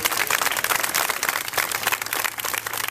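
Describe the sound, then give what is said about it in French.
Steady, dense applause from a crowd saluting the young firefighters of SDIS Les Salines after a demonstration exercise, many hands clapping continuously and fairly loudly throughout, with no voices standing out. “Des applaudissements nourris pour saluer le travail de cette relève.”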